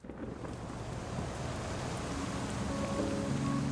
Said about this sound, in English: We're sitting on the stoop of a church near work, with styrofoam coffee cups, watching the rain drip from the awning.